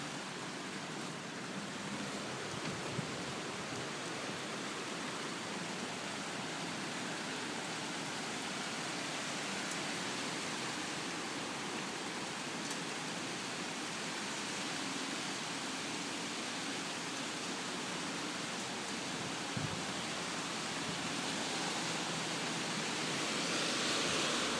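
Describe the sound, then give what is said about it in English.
A dense, unbroken roar of heavy rain and gusting wind in a big storm, with winds of about 90 to 100 kilometres per hour, rain falling on a terrace; loud and steady with only slight swells and a few sharper patters, and no voices. “And I am under a big rain and wind heavy storm.”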